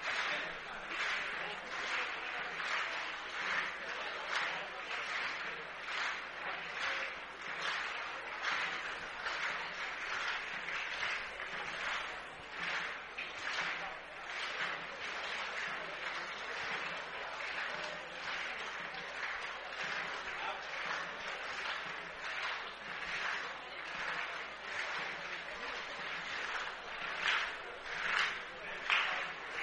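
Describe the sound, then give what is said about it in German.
A sports crowd claps in a steady, repeating rhythm during a pause in play while drinks are brought to the players, the beats coming regularly and evenly throughout, loud and continuous over a broad wash of crowd noise. “Den Spielern werden Getränke gebracht, das Publikum klatscht rhythmisch.”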